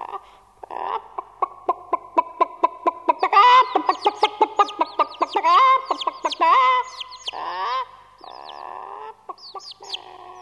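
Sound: farm animals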